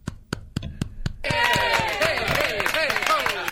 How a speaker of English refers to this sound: Here, I'm going to give you a golf clap.